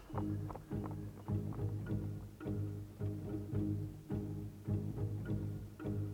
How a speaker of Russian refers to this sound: Ой, как лошади плетутся. Господи, да скорей же.